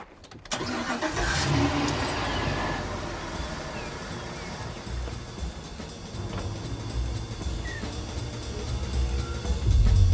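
A car engine bursts to life after a brief quiet moment, then roars loudly and steadily, its pitch wavering as it revs and surging again near the end. No one speaks.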